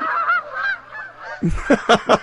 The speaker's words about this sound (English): Here it comes. Flock of geese.